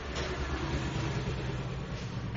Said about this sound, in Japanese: ちょっと窓を開けてるせいか、 あ、 バイクの音が。 そうですね、窓を閉めまし ょう。閉めましょうか。